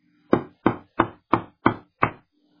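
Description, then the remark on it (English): Six loud, heavy knocks on a door in a steady, evenly spaced rhythm, each a sharp thud with a short decay, alone with only a faint low hum beneath. “Next morning, when she was up, had prayed to God and talked with her children a while, one knocked hard at the door.”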